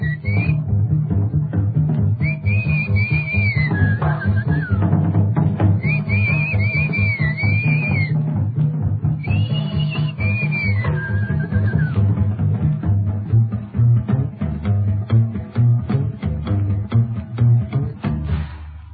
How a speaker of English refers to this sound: Nothing but a bass and drum and a silly whistle.